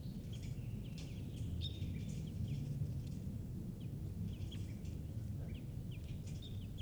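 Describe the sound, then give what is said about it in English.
A wild bird gives alarm calls, short sharp chirps repeated irregularly throughout, fairly faint above a steady low rumbling background. “And a wild bird is here giving alarm calls.”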